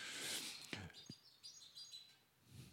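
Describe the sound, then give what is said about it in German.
Faint, high bird chirps and twitters with a couple of brief scratchy knocks, like small birds scrabbling somewhere overhead, with no talking. “Ich glaube, es sind eher Vögel, die da oben rumkrabbeln.”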